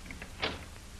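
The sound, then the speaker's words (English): A heavy cell door is opened with a single short metallic clank and scrape, fairly quiet and heard alone against a faint background hum. “I'll open the door.”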